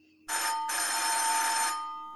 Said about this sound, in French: Un nouveau coup de sonnette interrompit ses réflexions. Un nouveau visiteur entra.